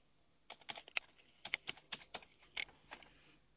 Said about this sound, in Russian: Теперь предлагает ввести пароль. Угу. Вводите. Так, у нас был точно такой же придуман пароль.